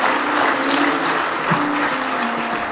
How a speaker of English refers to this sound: Give the Lord one more hand clap of praise this morning.